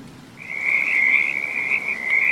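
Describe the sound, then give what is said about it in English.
Frogs croak at night in the rain by a deserted square at an abbey car park, in a steady, high-pitched trill that starts after a brief pause and runs unbroken to the end, over a low constant wash of background noise. “A small, uncomfortable car parked at night in a deserted square in the rain, with frogs croaking.”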